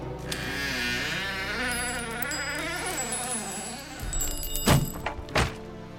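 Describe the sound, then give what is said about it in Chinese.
A wavering, buzzing whine fills the first few seconds, then gives way to about four hurried, heavy, urgent knocks on a door by a visitor's small, chubby hand, the last ones loudest. “还没来得及回答溜溜的问题，忽然一阵急切的敲门声打断了娜娜的话。”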